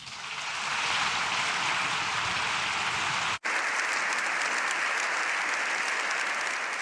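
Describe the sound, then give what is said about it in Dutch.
Sustained applause from a large crowd after a speech by the Pope in Spain, applause lasting seven minutes in all: a dense, steady wash of clapping that rises in the first second and holds loud throughout, with a brief cut partway before it continues unchanged. “En het applaus dat u kan horen duurde maar liefst 7 minuten lang.”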